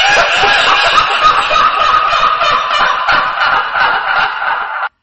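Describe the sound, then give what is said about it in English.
A creepy, cackling laugh sound effect: loud and unbroken, with rapid, rattling pulses running for about five seconds before cutting off abruptly. No one talks over it. “A pre-warning that we are going to use an effect sound right now.”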